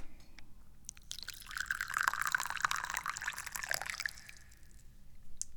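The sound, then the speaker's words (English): Yinding Kaiguanyin tea pours steadily into a cup for about three seconds, a bright splashing stream that starts with a few drips and trails off into quiet. No one speaks. “But now I need to pour some tea.”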